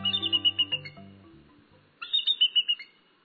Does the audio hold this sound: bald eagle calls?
yes